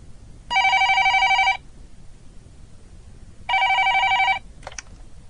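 A telephone rings twice, each trill lasting about a second with a pause between, clear, followed by a brief click as the receiver is picked up. No one speaks.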